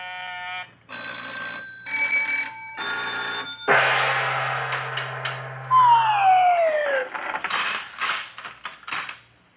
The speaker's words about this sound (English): I'll open up my push-button money box.